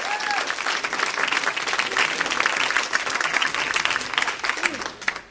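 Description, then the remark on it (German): An audience claps steadily in a dense, sustained wash of applause that holds for about five seconds before tapering off abruptly at the end. “Ihr könnt einen Applaus geben.”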